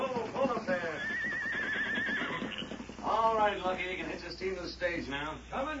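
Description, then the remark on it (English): Horses neigh with shrill, wavering whinnies over the steady clip-clop of hooves, while voices talk underneath. A stagecoach rolls along: the night stage, driven by Jim Lane, on its first run to Colby. “That's Jim Lane now, Tonto. Ah, him drive stage.”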